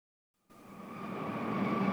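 After a moment of silence, a train rumbles in at a railway station, its steady low roar growing louder, with faint high whining tones over the station noise; train number 14 Berlin–Moscow is arriving at platform 5, track 10.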